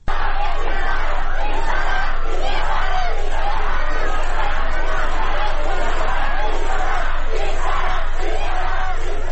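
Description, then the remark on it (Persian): A loud crowd of law students at Allameh Tabataba'i University chants a protest slogan in unison as they see off government spokesman Ali Bahadori Jahromi, who had come to give a speech. Voices rise and fall in a steady rhythmic pattern throughout, with dense shouting and no pauses. “همزمان دانشجویان دانشکده حقوق علامه طباطبایی هم علی بهادری جهرومی، سخنگوی دولت رو که برای سخنرانی به این دانشگاه رفته بود، با این شعار بدرقه کردند.”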